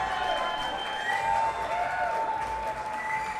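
A crowd applauds steadily, a dense, even wash of many hands clapping that holds at a constant loudness throughout, with a few high cheers or whistles rising above it.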